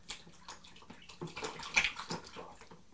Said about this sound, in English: Are the ducks having a swim? No. Are they splashing in the water?